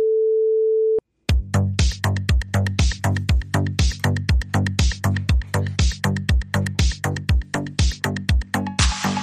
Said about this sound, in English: I removed, pushing the Apple subscription podcast, but I'm just taking it out of the episode. So that's what that beep is. That missing information is the Apple subscription plug.